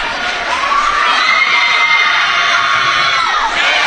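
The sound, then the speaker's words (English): A basketball crowd cheers loudly and steadily during free throws late in the second quarter, a dense roar of high-pitched shouts and whoops that stays strong throughout, with no clear speech over it. “We knew the crowd would get into it at some point in time here.”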